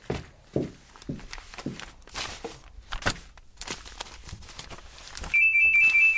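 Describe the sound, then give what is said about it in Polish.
Hard, uneven footsteps clatter for several seconds, then a loud, shrill telephone ring cuts in abruptly near the end, pulsing steadily. “Ale nieznośny sygnał. Gdzież jest ten telefon?”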